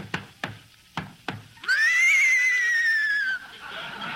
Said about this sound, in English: Hey, Abbott, there's somebody riding into the studio on a horse. Whoa, crooner!